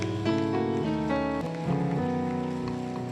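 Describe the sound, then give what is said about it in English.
A crowd claps their hands to celebrate Jesus in a steady, dense patter that blends into a noisy wash, with sustained keyboard or organ chords playing loudly over it. “Can you once again celebrate Jesus by clapping your hands?”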